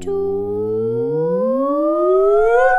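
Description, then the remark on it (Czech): A single voice holds a steady hum and slides smoothly upward in pitch for about three seconds, a loud, siren-like glide imitating a sci-fi tractor beam, with no other sounds. “Přesně. A nahoru.”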